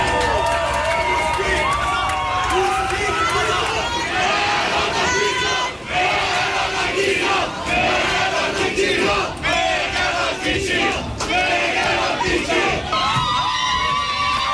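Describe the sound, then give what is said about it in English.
Hundreds of thousands of people chant "Russians Go Home" and shout in unison in the Budapest metro, Hungary, loud and sustained, with rhythmic bursts of voices and cheering swelling throughout, celebrating an election victory. “Chants of Ruskaya Kaza, or Russians Go Home, echoed in the Budapest metro tonight as hundreds of thousands cheered the victory.”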